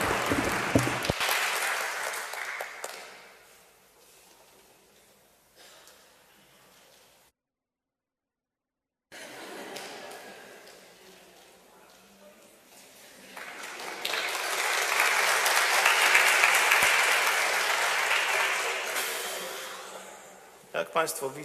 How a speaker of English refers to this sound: So let me ask you to reward with a round of applause